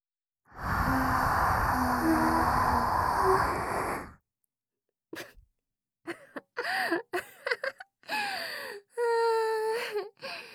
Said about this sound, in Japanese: ねえ、聞こえた？吐息の爆弾。いきなりぶち込まれて避けるの無理だったかな。ノータイムの攻撃だと考える猶予ゼロだね。